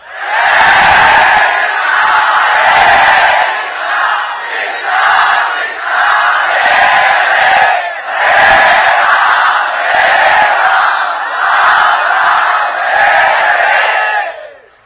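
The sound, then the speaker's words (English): A large crowd chants the Hare Krishna holy names loudly in unison, voices swelling in repeated rhythmic phrases that rise and dip roughly every couple of seconds, filling the whole stretch with dense, sustained group singing. “Try to chant 10 million times louder, please.”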